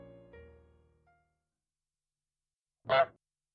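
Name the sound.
goose honking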